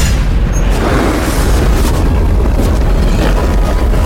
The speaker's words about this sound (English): Your plane is hit. The engine bursts into flames.